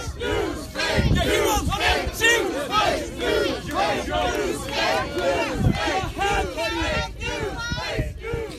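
crowd, street protest crowd shouting

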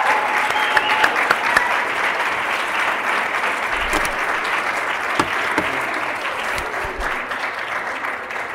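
crowd, audience round of applause

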